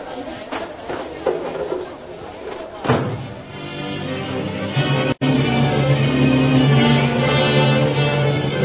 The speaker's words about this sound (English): Knock the table over so he can't catch us.